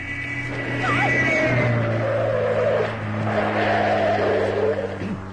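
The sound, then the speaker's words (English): A powerful sports car engine roars, revving and sweeping past with a rising and falling whine on a narrow road in Bavaria, followed by tires squealing briefly as it brakes hard to a stop. “It's a sports car. It's an enormous thing. He's trying to pass you.”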